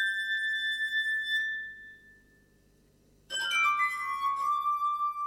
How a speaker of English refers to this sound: The glass harp is the most extraordinary instrument. I've never seen anybody playing it before, and it's very wonderful.